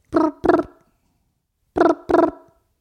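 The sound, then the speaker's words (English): A voice imitates Mario Kart ringing on the phone: two pairs of short, buzzy, harmonic bursts, a double ring, a pause, then the double ring again, fairly loud with no other sound. “This is my impression of Mario Kart on the phone.”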